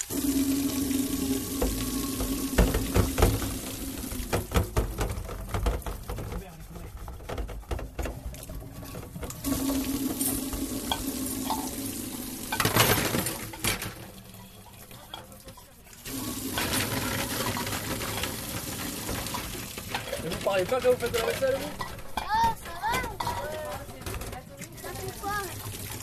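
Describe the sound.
Running tap water splashes steadily while dishes clink and clatter, with brief pauses when the flow stops before resuming; a few voices murmur intermittently in the background.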